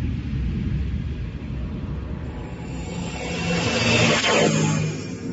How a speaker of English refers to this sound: Switch the gyro stabilizer. Start the reactor jets.